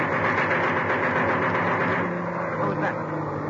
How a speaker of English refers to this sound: What was that? German plane attacking? No, that's just a Spitfire. Gunnery practice. See, you can see the plane ahead of him towing the target sleeve.